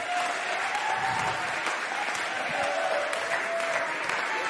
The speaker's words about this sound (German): Ein Applaus